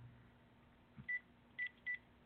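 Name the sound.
telephone number being dialed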